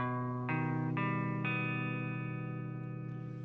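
Instrumental stretch of a blues song with a backing band: thick, distorted sustained chords swell in three quick steps about half a second apart, then ring on loudly with no singing.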